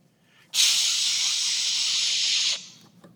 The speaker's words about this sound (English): Rattlesnake buzzes right beside me.